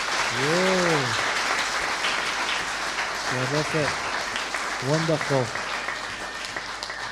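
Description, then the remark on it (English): Sustained audience applause for a group of boys and girls fills the whole stretch, a dense steady clatter of many hands clapping, while a voice calls out a few short words of praise over it. “Now, boys and girls, I think you deserve a round of applause, everybody, don't you?”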